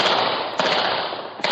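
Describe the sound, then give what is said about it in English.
Loud, dense rapid gunfire crackles continuously, with a couple of sharper bursts standing out. The shots blur together into a harsh, sustained clatter with no voices. “Chicago is no stranger to the sound of gunfire.”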